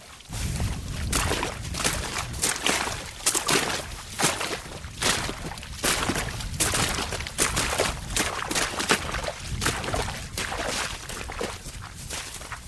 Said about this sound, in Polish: Ewidentnie te ptaki powiększają sobie oczko, które w tej chwili stworzyły swoim ruchem, łamiąc lód. O, teraz jeden z ptaków, drugi również zaczynają żerować, czyli prawdopodobnie łamią ten lód, żeby poszerzyć sobie zasięg zdobywania pokarmu.